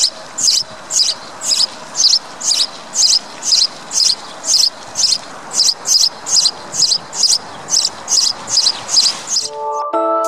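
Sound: sparrow chirping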